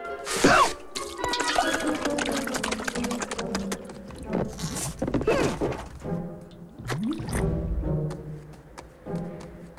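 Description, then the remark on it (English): Wet lapping and slurping, like a goose drinking water the way a dog would, in quick irregular bursts of splashy clicks over a tonal musical background. “He laps water.”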